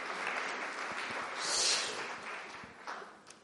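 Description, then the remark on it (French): An audience applauds to thank a speaker, a dense wash of many hands clapping that swells to a peak around the middle and then gradually thins out, with no voices over it. “Merci, on peut applaudir.”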